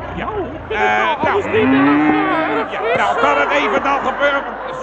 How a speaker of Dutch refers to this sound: Kijk, ineens een koe weer op de nil.